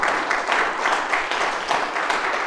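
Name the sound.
audience applauding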